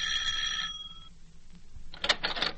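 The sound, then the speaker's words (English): A doorbell rings with a bright, sustained electric tone that cuts off, followed by a second burst of ringing after a short pause, fairly loud with no one talking. “Oh, golly, the doorbell.”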